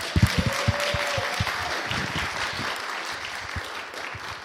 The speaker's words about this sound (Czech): Prosím, přivítejte ji potleskem.